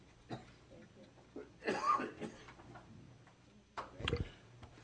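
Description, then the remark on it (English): A couple of harsh coughs from a persistent cough burst out a few seconds apart during a meeting, with faint clicks and room noise filling the gaps between them. “I want to apologize for this tubercular cough that I can't get rid of here.”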